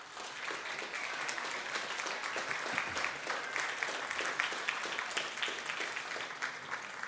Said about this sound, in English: Thank you to everybody who put this on today. Maybe we get a quick round of applause for everybody.